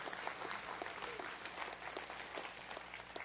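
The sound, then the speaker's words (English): A crowd of people applauding, steady dense clapping that holds at an even level for a few seconds, no voices rising above it. “We can clap for that.”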